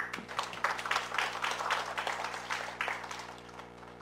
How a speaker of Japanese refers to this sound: で、それでは、ご臨在の主に感謝の拍手をしてまいりましょう。ハレルヤ。